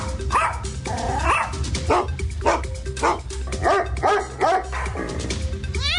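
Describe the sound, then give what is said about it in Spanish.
Several dogs, four-legged passengers in a vehicle, bark and yip in a rapid, overlapping series of sharp mid-pitched barks, loud and steady for several seconds, with a few whiny yelps mixed in. “Estimados ocupantes del vehículo, el siguiente mensaje va dirigido a los pasajeros de cuatro patitas.”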